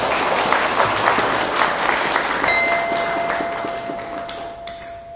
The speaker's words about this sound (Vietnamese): hãy dâng cho một tràng vỗ tay thật lớn nào.